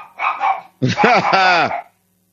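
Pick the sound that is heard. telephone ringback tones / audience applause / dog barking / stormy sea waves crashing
dog barking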